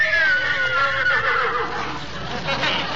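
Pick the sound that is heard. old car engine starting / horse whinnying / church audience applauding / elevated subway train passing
horse whinnying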